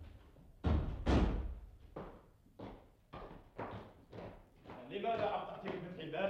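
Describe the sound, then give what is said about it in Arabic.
Officers pound heavily and loudly on a door, hard enough to nearly break it, in a steady series of about eight booming thuds, with a voice starting to talk at the end. “إنكم تنالوا أن تحطموا الباب.”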